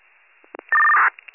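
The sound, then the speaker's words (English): A short, loud, steady electronic tone burst of radio dispatch paging tones, sent out to alert an ambulance crew to a diabetic emergency call in Frelinghuysen Township. It lasts under half a second, with a few soft clicks and crackles of a narrow, radio-like channel around it. No one speaks. “I'll let you know in a minute or two after the tones go out.”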